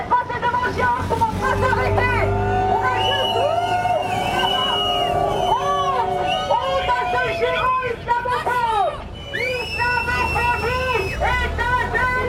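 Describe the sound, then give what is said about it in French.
A crowd of about thirty protesters in a demonstration in support of Gaza boos and shouts together as it moves past the Geox shop, with many overlapping voices rising and falling in a loud, continuous din, plus a few higher-pitched calls. “Tout à l'heure, alors que je me trouvais devant le magasin, une trentaine de personnes participant à une manifestation en soutien à Gaza a poussé des huées en passant devant Geox.”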